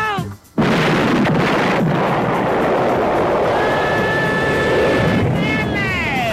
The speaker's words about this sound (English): Watch it, that propane is gonna go!